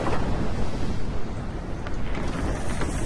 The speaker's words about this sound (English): Lava starts to erupt from a volcano. The light from the scalding liquid explodes out of the darkness. A spray of steam shoots out.